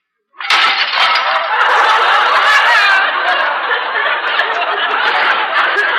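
A stack of dishes (plates, soup bowls, cups and saucers) drops with a sudden loud crash, then a dense, steady clatter of breaking and rattling crockery that carries on without letup for about five seconds.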